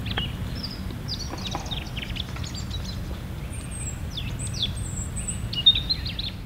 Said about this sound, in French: Deuxième oiseau pour aujourd'hui, ça c'est la mésange charbonnière, fréquente dans les jardins. Un chant énergique, assez facile à reconnaître. Titu, titu, titu. Ou bien tititu, tititu.